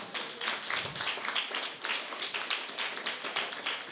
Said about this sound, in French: Gloire, gloire, gloire à Jésus. On applaudit Jésus.